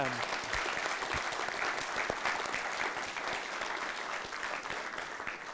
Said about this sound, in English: Can we give Aidan a warm round of applause?